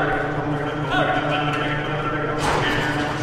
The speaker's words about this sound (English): Cows and bulls are trotted out into the middle of a small arena as the auctioneer rattles off the highest bid.